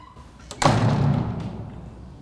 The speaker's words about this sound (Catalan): Li tanca la porta als nassos.